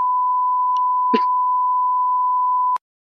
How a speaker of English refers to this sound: you know I know the beep sound.